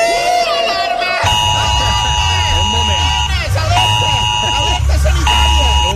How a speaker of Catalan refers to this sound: Alerta d'emergència! Ojo, que plourà molt!